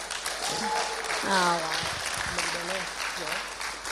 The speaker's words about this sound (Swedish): Fantastiskt, det här tycker jag var jättebra. Eller hur? Värt en applåd.